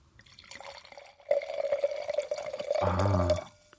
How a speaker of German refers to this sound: Ich mache jetzt mal das Einschenken mit Atmo. Pass mal auf. Wahrscheinlich funktioniert das.